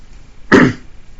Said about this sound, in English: Excuse me. Here we go with the coughing.